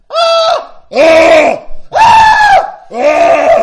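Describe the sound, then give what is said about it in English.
A person screams at full volume in four long, strained bursts with brief gaps between them, each loud and harmonic, with pitch rising and falling slightly. “you know what the new thing is in America, when you pause, you scream as loud as you can.”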